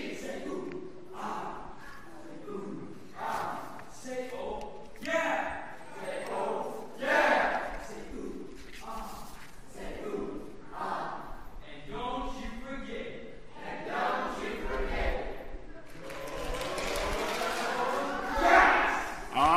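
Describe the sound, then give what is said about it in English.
The orange team, a team of voices, shouts a cheer together for about twenty seconds, a loud, rhythmic run of chanted bursts that builds to an even louder, more ragged yell near the end. “Give us a cheer.”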